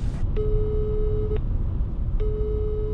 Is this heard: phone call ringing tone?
yes